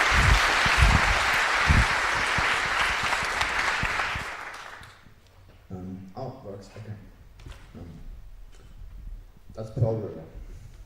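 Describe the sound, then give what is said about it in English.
An audience applauds loudly for about four seconds to welcome the speakers of a talk on LibreSilicon, a free and open silicon manufacturing project, a dense, steady clatter of clapping that fades out, then a single voice starts talking. “So let's give them a warm round of applause.”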